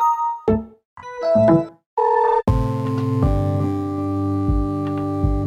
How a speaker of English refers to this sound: UI stands for user interface. UI sounds are the notifications you hear as you use your computer.